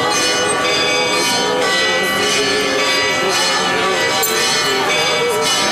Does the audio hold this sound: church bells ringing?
yes